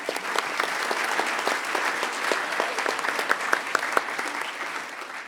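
A crowd claps steadily for several seconds, a dense wash of many hands with a few sharper individual claps popping out, holding level before tapering slightly at the end.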